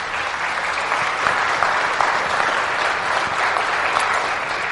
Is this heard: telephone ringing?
no